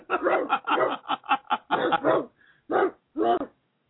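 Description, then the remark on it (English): A puppy yaps in a quick, steady string of about a dozen high, sharp barks, then pauses and lets out two more. The barking is fairly clear, with no talking over it. “See, like this little puppy that was barking in the back here. That's a puppy.”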